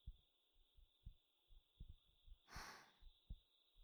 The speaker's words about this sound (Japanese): 私の心臓の音、好きですか？私のお胸に頭を乗せるの、気持ちいいでしょ？